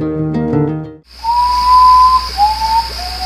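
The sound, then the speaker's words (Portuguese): After a brief burst of music, a common potoo, a nocturnal bird resembling an owl, sings a mournful series of long whistled notes, each one lower in pitch than the last, over a steady high insect-like hiss. “Esse aí é o Urutau Pardo, ave noturna que lembra muito uma coruja.”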